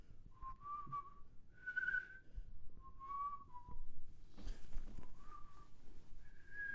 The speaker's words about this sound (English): Yeah, well, that's before you started singing again, whistling.